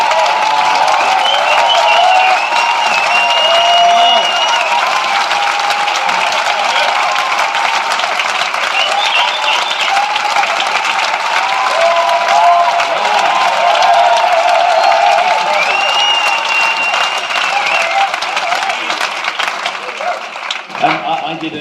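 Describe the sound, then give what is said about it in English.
A crowd applauds steadily for about twenty seconds, dense loud clapping mixed with cheering and overlapping voices, holding even throughout before thinning slightly at the very end. “Let's give him a hand.”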